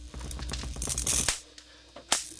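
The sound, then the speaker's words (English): Two wires are touched together: electric sparks crackle and sizzle in a harsh burst lasting about a second, then stop with a sharp snap. A single loud spark snaps again shortly after. There is no talking. “Sean sparks two wires together.”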